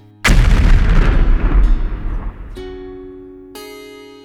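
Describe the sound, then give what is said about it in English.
A single loud explosion bursts out and rolls into a long rumbling decay, with a couple of faint sustained ringing tones appearing as the blast fades. No one speaks. “Now that is an explosion.”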